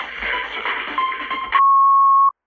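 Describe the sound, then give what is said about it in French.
A steady electronic answering machine beep tone after the greeting, loud and clear, holds for under a second after a burst of muffled, noisy background sound, then cuts off abruptly into silence. “Laisse un message après le bip.”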